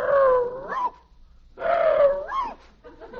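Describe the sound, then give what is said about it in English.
A man imitates a Boston Terrier's growl: two loud, drawn-out throaty growls, each ending with a rising whine, separated by a short pause, with a brief third growl starting at the end. “He thinks he's a Boston Terrier.”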